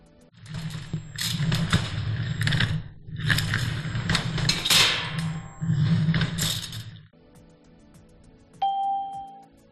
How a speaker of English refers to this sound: They're moving furniture.